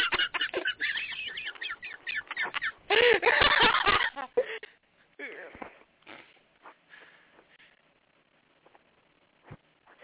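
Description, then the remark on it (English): A duck quacks loudly in a rapid, raspy string of calls, peaking in a harsh burst around the middle, then fading into scattered fainter sounds and quiet. “I don't know what you're doing with a duck, but you have a duck.”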